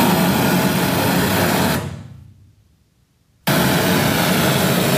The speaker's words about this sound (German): Während das laute Rauschen stoßweise kommt, geht der Akustiker mit einem Messmikrofon durch den Raum, schaut aufs Display.